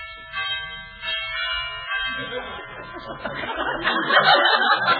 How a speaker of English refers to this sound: Well, I'll ring the bell.